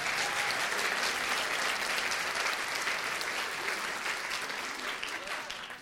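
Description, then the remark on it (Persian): A crowd applauds a man's wife after he thanks her, a dense wash of many hands clapping at an even, sustained level that eases off slightly toward the end, with no voices standing out. “تشویقش بکنید.”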